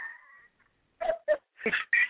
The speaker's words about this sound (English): But what's so funny is the dog barking.